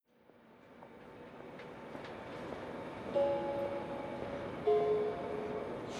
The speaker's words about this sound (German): Meine Damen und Herren an Gleis 2, Ihr Zug fährt in Kürze ab. Bitte steigen Sie ein. Türen schließen selbsttätig. Vorsicht bei der Abfahrt.